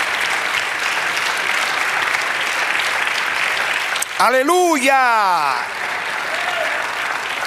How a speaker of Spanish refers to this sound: Dale aplauso al Señor.